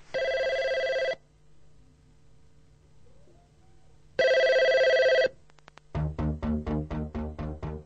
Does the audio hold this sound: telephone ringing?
yes